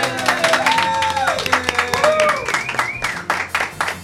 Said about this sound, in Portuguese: Bueno, agora sí que é o momento de pedir ese aplauso para que se vexa que non estamos sós.